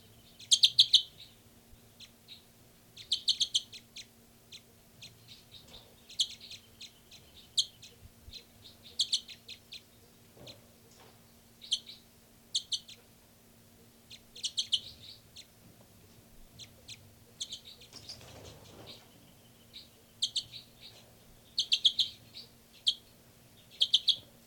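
Repeated bursts of high-pitched chirps from two birds being recorded, numbered 298 and 318, arrive in quick clusters, some loud and some soft, with 318 the loud one and 298 the soft one, over a low steady hum, with no one speaking.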